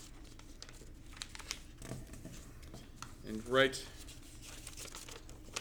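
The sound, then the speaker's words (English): Paper rustles and crinkles as sheets folded into three sections are handed out to quiz teams, with a brief louder crackle midway; a person speaks briefly over the handling. “So the pieces of paper that I'm handing out to you are folded into three sections.”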